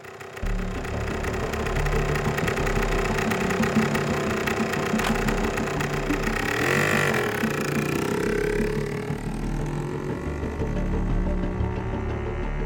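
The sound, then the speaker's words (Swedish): A police helicopter in the air drones steadily and loudly throughout, a constant low mechanical rumble with a faint throbbing pulse and a whining hum over it, and no voices. “Man larmar samtidigt ut andra patruller och tekniker och även en helikopter sätts i luften.”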